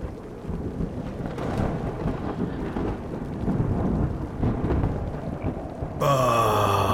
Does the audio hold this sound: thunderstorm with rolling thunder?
yes